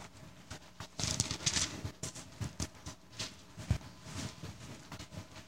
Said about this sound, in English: Amos 5:14 says, I hear, still hear pages turning. If you can't find it, it's page 1338.